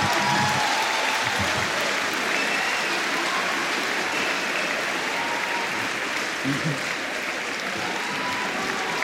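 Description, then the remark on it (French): An audience claps steadily for about nine seconds, a dense, even wash of many hands at a fairly loud, constant level with no voices standing out. “Non, mais n'applaudissez pas ça.”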